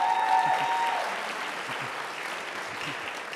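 A crowd applauds steadily for a few seconds, dense clapping that starts loudest and eases slightly, with a brief whistle-like tone near the start and a hint of murmuring voices.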